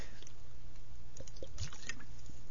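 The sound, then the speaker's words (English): Someone drinking root beer flavored water: a few soft, wet sips and swallows with faint liquid squishing in the mouth, quiet and unaccompanied by speech. “Root beer flavored water.”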